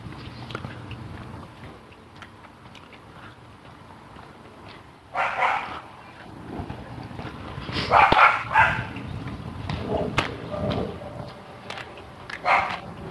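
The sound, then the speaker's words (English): A woman's tiny dog barks in short, high-pitched yaps, a handful of scattered bursts over several seconds, against a steady low background rumble. “Lady with her little tiny dog.”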